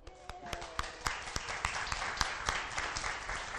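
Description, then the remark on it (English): A round of applause from a group of people, with dense, rapid clapping that swells slightly and holds steady for a few seconds, punctuated by a few sharper individual claps. “And then we'll just give him a round of applause and then we can seat them.”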